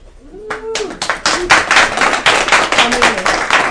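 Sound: applause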